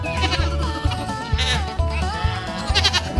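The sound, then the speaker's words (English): Several trained goats performing a routine, jumping around in formations, bleat loudly and repeatedly, their wavering cries overlapping, while a steady low thumping beat pulses underneath throughout. “While his long beard swings and his cowboy boots tap, the goats jump around in different formations and then end the act with a big pyramid.”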